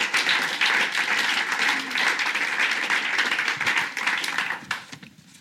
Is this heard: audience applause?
yes